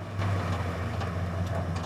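A truck engine rumbles steadily, a deep low hum with faint higher whines, as the truck, with a body bag secured to its back, pulls up and settles outside a small stone building. No voices.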